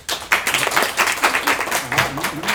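An audience at an improv theater show breaks into applause, a dense wash of many hands clapping at once that stays fairly steady throughout the short burst.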